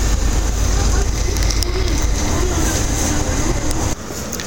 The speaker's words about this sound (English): And the bus now is coming over Waterloo Bridge, and I can see my stop coming up at the South Bank Centre.